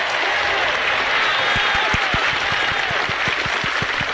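Steady clapping from a small group, a dense patter of hand claps that stays loud and even throughout, with sharp low thumps landing at a quick, irregular rhythm from about halfway on.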